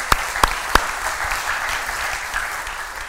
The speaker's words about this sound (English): And really, yeah, we give Denny a round of applause.